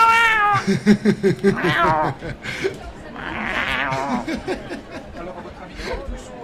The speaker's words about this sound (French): Qui c'est qui a laissé le chat miauler dans le micro?